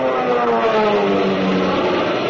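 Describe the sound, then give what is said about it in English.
Nazi fighter plane engines roar loudly and continuously as the planes dive to bomb ships, their droning pitch sliding gradually downward, with no voices present. “You can see the Nazi planes diving. To bomb the ships that mean your life, the machine gun, the deck.”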